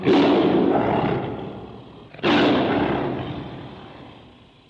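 A tiger roar sound effect: two loud tiger roars in a row, each a rough, rumbling blast that slowly fades out; the second follows about two seconds after the first, with no voices.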